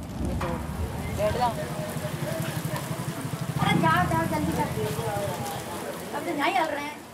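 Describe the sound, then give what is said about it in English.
A heavy downpour hisses steadily onto an asphalt street in Bundi, a dense, constant wash of rain with muffled voices calling and talking faintly underneath. “In Bundi, rain cools the hot asphalt.”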